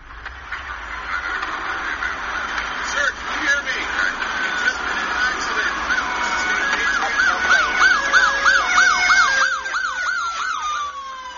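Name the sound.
emergency vehicle sirens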